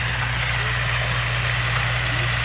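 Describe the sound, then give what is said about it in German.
A large tractor engine drones steadily, its low rumble mixed with a broad, whirring mechanical noise from the mowing machine as fields are mowed, continuous and without pauses. “Wenn nämlich der grosse Traktor mit der Mähmaschine kommt, springt das Reh nicht weg, weil es die Gefahr sieht, sondern es macht sich im Gegenteil einfach noch kleiner und so kommt es unter die Mähmaschine.”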